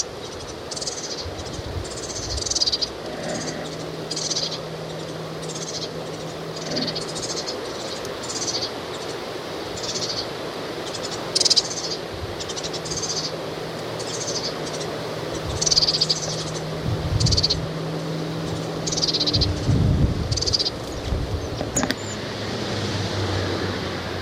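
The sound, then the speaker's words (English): Young birds make high, scratchy begging calls over and over in a steady, insistent rhythm, with a low engine-like hum running underneath. “And it's just begging calls now.”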